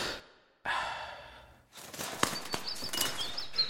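Two soft, breathy whooshes give way to a busy flutter of robins' wings with faint high chirps and tweets scattered through it as the robins rearrange bedding. No one speaks.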